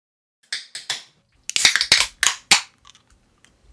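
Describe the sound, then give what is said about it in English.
A bottle of Hop Bird copper red pale ale from Austmann being opened: three quick sharp clicks, then a louder cluster of crackling, hissy snaps as the cap comes off, fading to a few faint ticks. No one speaks. “It's a Hop Bird from Austmann, and it's a copper red pale ale. And I shall now open it.”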